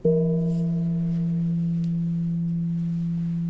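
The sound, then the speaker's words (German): A single low strike of a church gong at a monastery cloister, sounded once the tower bells have finished ringing and the church door is open, before choir prayer. It rings out with a sharp onset, then a steady, slowly fading hum of sustained overtones that holds for several seconds without other sounds. “Und wenn es dann fertig geläutet hat, Tür ist auf, gibt es dann diesen Gong.”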